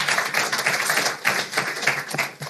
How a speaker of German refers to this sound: Erst einmal vielleicht einen kleinen Applaus für euch, dass ihr euch mit mir hierher stellt.